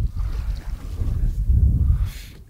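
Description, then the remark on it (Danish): Steady wind buffets the microphone outdoors on a small rowing boat on open water about 3.8 to 4 metres deep, a low rumbling roar that swells and fades, with faint water and boat sounds underneath and no one speaking. “Jeg ved ikke, altså, du ligger altså kæmper lidt i vinden, kan jeg se.”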